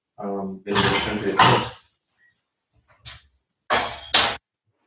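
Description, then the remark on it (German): A cocktail shaker is shaken in loud bursts of rattling ice, a long double burst, a pause with a faint clink, then another vigorous two-part shake. A short tonal sound comes first. “hört er mal auf mit Shaken.”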